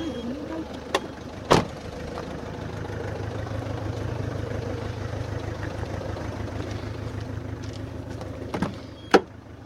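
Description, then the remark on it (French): People climbing into a car with the engine idling in a low, steady rumble, punctuated by a few sharp clunks and thuds like doors shutting and seats settling. “Vous voulez qu'on y aille avec la voiture? Oui, comme vous voulez, on y va avec la voiture.”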